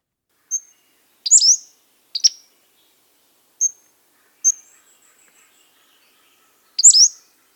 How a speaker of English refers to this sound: You heard it just a moment ago, but I'll play it again. This is the Pacific Slope Flycatcher.